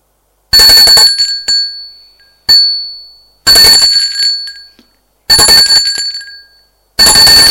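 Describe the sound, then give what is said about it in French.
A loud, bright wake-up bell rings in five sharp bursts at irregular intervals, each ring shimmering briefly before cutting off, with nothing else heard in between. “Ils sont réveillés par une sonnerie.”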